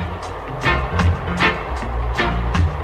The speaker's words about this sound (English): Sound like a train coming over here. That must be engine 54.